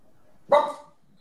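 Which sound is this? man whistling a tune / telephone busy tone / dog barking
dog barking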